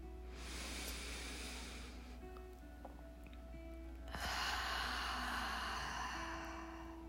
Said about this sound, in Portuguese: Te convido nesse instante, independente de onde você esteja, a respirar profundamente.